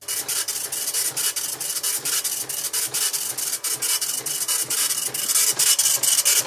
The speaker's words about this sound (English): This is a printer, but a specific type of printer. Oh, I know where you're going. A computer paper size dot matrix printer. Those pain in the ass things.